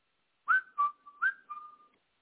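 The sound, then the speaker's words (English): A person whistles a quick, chirpy imitation of tweeting birds: about five short warbling notes with bright, sliding pitch, heard alone with no talking. “Little Tweety Birds.”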